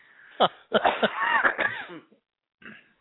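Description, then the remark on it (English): A person coughs and clears their throat, starting with a sharp burst, then a rough, drawn-out stretch, and ending with a brief, softer cough after a pause. “I wish I had a cough button.”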